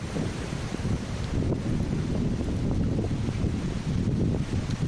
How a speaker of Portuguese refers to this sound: E ademais, o vento sopla con moitísima forza.